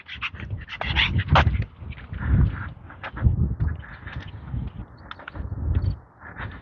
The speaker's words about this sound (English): Little dogs. Morning.